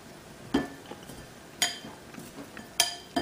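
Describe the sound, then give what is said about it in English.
Peeled shrimp being given a quick toss with soy sauce in a bowl to marinate, with a few sharp clinks of a utensil against the dish over a soft, wet stirring rustle. No one speaks. “I'm going to give it a good quick toss here.”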